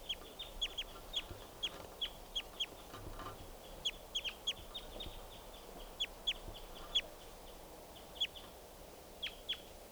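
A wild bird calls over and over with short, high, sharp chirps in quick irregular bursts, steady throughout, above a constant soft hiss of background noise.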